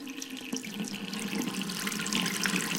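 water running

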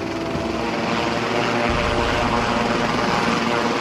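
helicopter flying

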